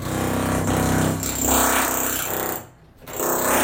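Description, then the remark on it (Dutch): A power drill whirs loudly and steadily, its motor pitch shifting slightly, then cuts out briefly near the end before spinning up again. No voices. “Dat is boren.”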